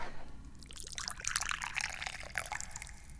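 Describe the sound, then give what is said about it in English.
Tea pours steadily into a cup, a bright splashing trickle that rises in pitch as the cup fills, fairly loud with no voices over it. “What we're going to do is we're going to pour some tea.”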